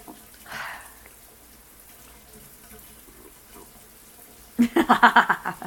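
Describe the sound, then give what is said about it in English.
Shower water runs in a soft, steady hiss while a person washes their back, then turns suddenly louder near the end with a quick series of rhythmic, splashing bursts, as if the spray is hitting something. “If the water has been beating on it, but that is not enough.”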